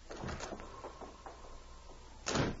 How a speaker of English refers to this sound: As the door slammed behind the two crooks, Lola and Jerry looked at each other with undisguised alarm.